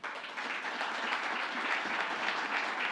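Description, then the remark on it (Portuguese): An audience applauds a female doctor after her speech, a dense wash of many hands clapping steadily at an even level throughout, with no voices standing out above it. “Uma salva de palmas aí”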